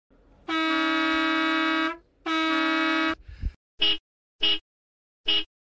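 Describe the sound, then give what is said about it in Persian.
A voice imitates various kinds of vehicle horns with the mouth: two long, loud blaring honks, a brief sputter, then three short evenly spaced toots, with no talking. “که من با دهنم بوق میزنم انواع اقسام بوق ها رو.”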